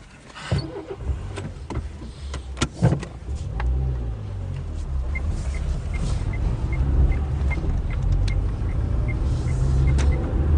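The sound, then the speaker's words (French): A large farm sprayer, about to spray, crosses a road in a vineyard area on a windy day; its engine rumbles low and steady, swelling louder over time, with a few sharp clanks early on and a faint train of evenly spaced high beeps later. “Il y a un gros engin là devant nous, justement, qui est en train de traverser la route.”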